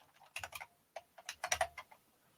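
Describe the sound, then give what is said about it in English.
Quick, uneven bursts of computer keyboard typing as someone pulls up a speech on their screen: a cluster of keystrokes, a short pause, then another flurry of clicky taps, fairly quiet with no talking. “One second, I'll just pull it up on my screen.”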